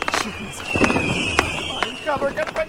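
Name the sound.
fireworks exploding overhead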